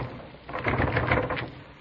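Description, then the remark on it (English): A stuck door is rattled and tugged, a moderately loud burst of jiggling, knocking scrapes lasting about a second, with no voices. “Here, let me try that door.”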